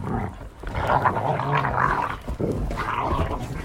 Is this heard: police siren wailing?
no